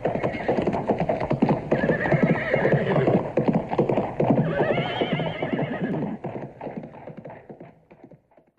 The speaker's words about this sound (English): Robin and Will Scarlet jumped on their horses and galloped off towards the forest.